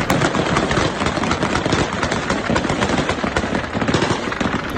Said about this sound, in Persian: با ادامه یافتن اعتراض‌های ضد طالبان و پاکستان در روز سه‌شنبه، تصاویر منتشر شده در شبکه‌های اجتماعی حاکی از تیراندازی شدید طالبان در پایتخت افغانستان به منظور متفرق کردن تظاهرکنندگان است.